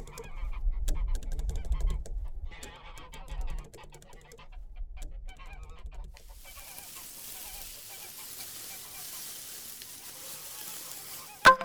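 Geese cackle and honk in a busy, overlapping chorus of harsh calls, with low rumbling in the first half before a hissy wash of noise takes over and one sharp final honk.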